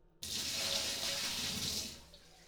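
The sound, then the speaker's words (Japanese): A sudden rush of hot water, poured over a head after a hair wash in the bath, pours steadily for about two seconds, a broad hissing splash that tapers off at the end, with no voices. “今日はおしまいと言ってあなたの頭へお湯をかけた。”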